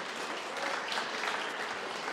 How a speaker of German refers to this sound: Auch dafür einen Applaus.